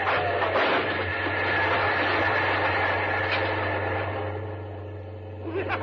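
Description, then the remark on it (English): A train roars past a level crossing, with the red lights on and the gates down, in a loud, steady rush of rumbling noise over a constant low drone, easing slightly toward the end with no voices. “Look, the red lights are on. The gates are down.”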